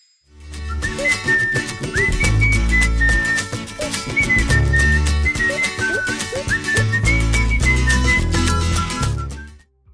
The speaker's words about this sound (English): Here is your first whistled song.